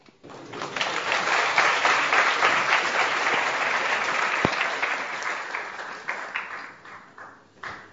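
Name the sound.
audience clapping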